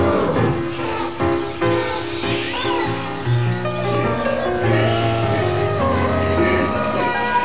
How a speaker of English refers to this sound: Soon, from all parts of the grounds come the sounds of animals waking and stirring, hooting, braying, growling, coughing, and in various other ways voicing their impatience to be looked after.